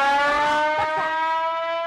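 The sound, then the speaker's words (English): A town's noon siren sounds loud and steady, one sustained droning wail holding its pitch throughout, with a few faint scuffling noises underneath and no talking. “God, it's the noon siren.”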